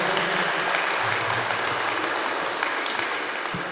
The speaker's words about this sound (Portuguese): Uma salva de palmas, então.